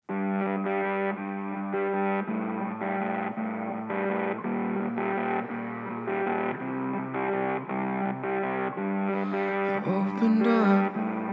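A heavy rock intro with loud, distorted electric guitars chugging in a steady rhythmic pattern, dense and full throughout, building to a brighter, noisier burst near the end with no vocals.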